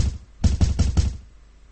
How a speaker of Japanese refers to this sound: なおも不気味なノックの音は止まなかった。いつまでも続くような感じの嫌なノックの音。ノイローゼにでもなりそうだ。